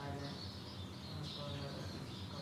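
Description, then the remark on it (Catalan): Birds chirp and twitter steadily in the background over a constant murmur of a crowd, with people talking indistinctly throughout, in a space full of people with a sloping wooden roof, a tiled terrace and stone walls. “Bé, és un espai ple de gent, on s'està fos, i se senten els ocells”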